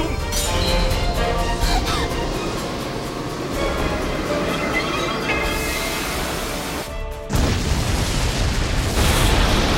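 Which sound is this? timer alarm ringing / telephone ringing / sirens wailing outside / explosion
explosion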